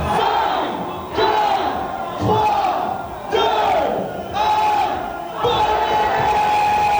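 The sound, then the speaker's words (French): A large crowd of partygoers in a nightclub chants the countdown to New Year 2025, loud shouted bursts in unison about once per second, many voices blending into a roaring, excited cheer. “Des cris de joie un peu partout sur les baies.”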